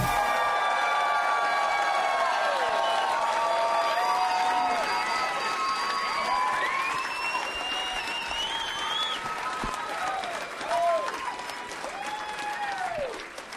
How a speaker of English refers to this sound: Hey, everybody. You guys were clapping so loud that nobody could even hear the theme song. That was pretty sweet,